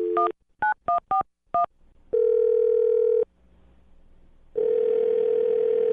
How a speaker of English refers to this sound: All right, well, I'm going to dial her phone number right now and see if we can figure it out. Here we go.